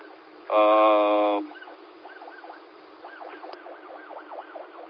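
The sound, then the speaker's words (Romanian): A police siren wails in quick, rising-and-falling yelps, growing stronger toward the end, preceded by a short, loud horn blast; everything sounds thin and narrow, as if heard over a radio. “Da, stai că a fost o mașină de poliție, scuze.”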